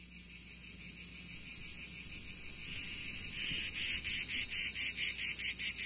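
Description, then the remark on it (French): Cicadas drone in a dense, high-pitched buzz that swells and then pulses in a steady rhythmic beat, loud, with no voices present, on a fine summer day in the south among cypresses and lemon trees. “C'est une belle journée dans le sud de l'été. Les cigales, les cyprès, les citronniers.”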